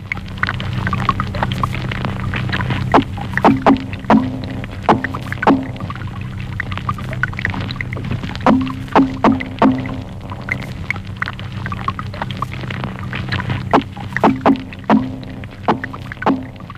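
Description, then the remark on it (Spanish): Rapid underwater knocking and croaking from sea robin fish drumming, made by one part of the swim bladder forcing gas while the other part amplifies the sound, in repeated bursts of pulses over a low, steady watery rumble, with several fish calling at once. “Oigamos el petirrojo de mar, el Sea Robins, quien usa una parte de su vejiga natatoria para forzar el gas y la otra parte para amplificar el sonido.”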